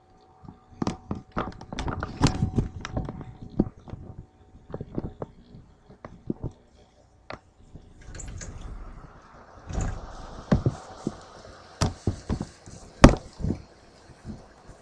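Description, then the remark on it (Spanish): Rain falling in the city of Morelia, Michoacán, heard through a window opened a little: irregular sharp drips and taps of uneven loudness, with a soft steady hiss of rainfall building up in the second half. No one speaks. “Y bueno, eso fue la lluvia aquí en la ciudad de Morelia, Michoacán.”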